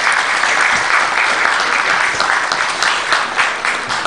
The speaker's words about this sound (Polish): Także duże brawa dla naszej reprezentacji.